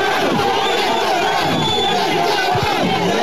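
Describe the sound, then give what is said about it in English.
A heated protest crowd at night shouts and roars together in a dense, continuous wall of overlapping voices, loud and unbroken for the whole few seconds, with angry yells rising out of the din. “So as you can hear, it was extremely heated last night.”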